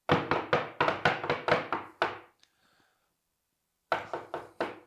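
A rapid series of solid knocks on a wooden door, about eight in a quick burst, then a pause of silence before three or four more knocks. Fairly loud, with no voices. Someone knocking at a door as part of an improvised scene.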